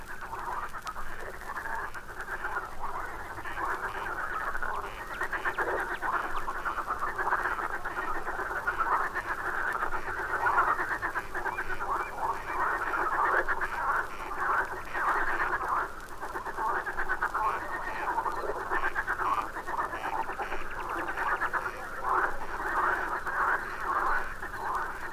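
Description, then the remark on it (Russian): A dense night chorus of marsh frogs croaking continuously, many overlapping rattling calls forming a steady, moderately loud wall of sound with no voices. “Слышите? Это дают ночной концерт озерные лягушки.”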